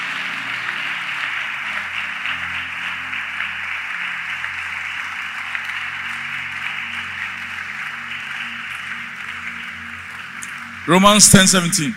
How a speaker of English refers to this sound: Clap for Jesus.